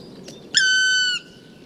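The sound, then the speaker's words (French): A black woodpecker gives one drawn-out, plaintive whistling call lasting about half a second, after a faint short chirp, with a quiet outdoor background. “Le registre vocal du pic noir est varié, mais les randonneurs de montagne apprennent vite à le reconnaître.”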